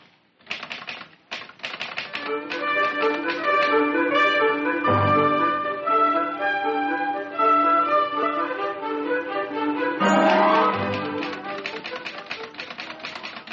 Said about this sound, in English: Mind if I use a typewriter? This one all right? Sure, go right ahead.